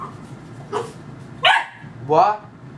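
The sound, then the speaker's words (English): A dog indoors lets out three separate barks about a second apart, loud and mid-pitched with a rough, harmonic edge, over a steady low background rumble. “Go get in your bed.”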